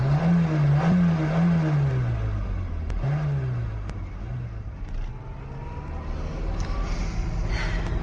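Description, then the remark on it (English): A car engine revs and accelerates while being driven across a moor on a bad road, its low harmonic drone rising and falling in pitch as the vehicle pulls away and shifts, with steady road rumble underneath and no talking. “You'll be driving back and you're not driving my car.”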